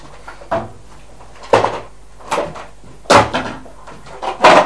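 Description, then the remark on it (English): A door is pushed open with a string of wooden clunks and rattles, about five irregular knocks over a few seconds, with no one talking. “Right, push the door then.”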